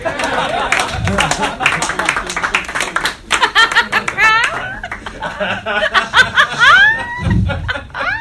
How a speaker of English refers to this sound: Everybody here wants to be a comedian? Clap it up.